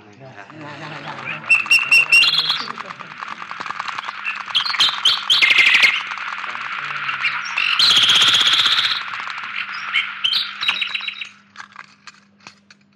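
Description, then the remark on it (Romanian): A nightingale sings loud, a busy stream of rich trills, whistles and rapid warbling phrases that runs without pause for about eleven seconds before falling quiet. “Acum, pentru că treburile țării au fost puse la cale cu înalta noastră înțelepciune, să ne mai desfete puțin privighetoarea cea măiastră.”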